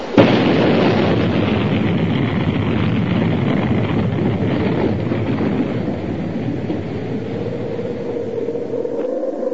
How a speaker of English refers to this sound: Then, suddenly, an explosion.